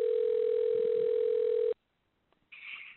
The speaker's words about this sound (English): I'm not sure what's going on there. I hear a phone ringing, but is that somebody else's phone? Do you have another line ringing